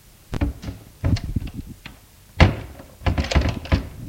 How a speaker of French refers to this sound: Des mains tremblantes, elle ouvrit la porte.